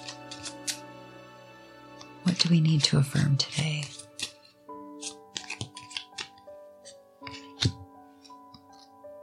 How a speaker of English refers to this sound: Okay, so let's shuffle these cards.